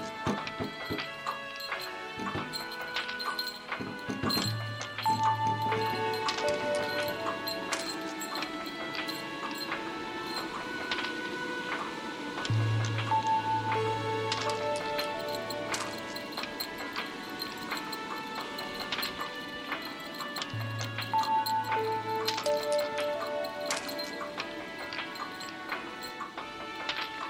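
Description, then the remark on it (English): A clock ticks steadily and briskly throughout, while a resonant chime rings out three times at irregular intervals, each tone lingering and fading under the constant ticking. The clock's mechanism was altered so it chimes at random times and a random number of times. “It chimes at any time it wants, and as many times as it wants.”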